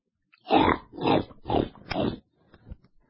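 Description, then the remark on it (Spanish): Four loud, rasping pig grunts in a steady rhythm, each about half a second long, followed by a few faint, softer snuffles. “Pero cuando escucháis un mensaje de nuestro creador Yahweh, os quedáis dormidos y pegáis unos ronquidos que parecen una granja de cerdos.”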